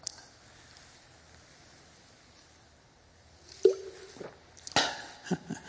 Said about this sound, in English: You make such a gulp. To learn how to drink that quietly.